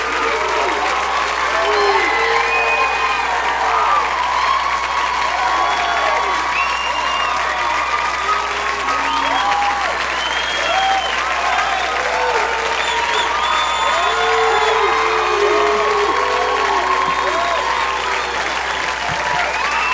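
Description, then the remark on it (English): A large crowd applauds loudly and steadily for a singer for the full stretch, with scattered cheers and whoops rising over the dense clapping, continuous without pause. “Ladies and gentlemen, come on. Give it up for the man, Mr.”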